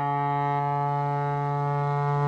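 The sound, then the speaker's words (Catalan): The horn of a ship arriving in port, heard through a hotel window, sounds one long, steady, low blast, rich in harmonics, holding the same pitch and loudness throughout without any break or other sounds. “Ah, un vaixell que arriba al port.”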